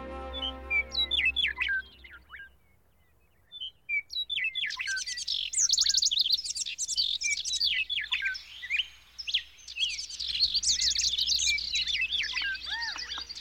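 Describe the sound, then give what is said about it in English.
A dense dawn chorus of many birds singing at once, overlapping chirps, trills and whistles that start sparse and swell into a loud, continuous cacophony, with a low steady hum beneath. “More and more birds of every species join in, and the bird song quickly builds into a full riotous cacophony known as the Dawn Chorus.”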